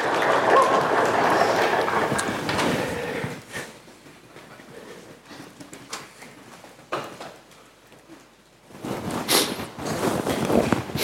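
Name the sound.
audience applause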